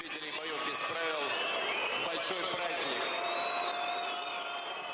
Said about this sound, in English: The audience started booing him and whistling. This barely ever happened before for a public appearance of the former president.